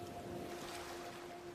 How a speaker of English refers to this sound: There's a mesmerizing feeling in watching this, and feeling the presence of this. Stay connected to your breath, the sound of the waves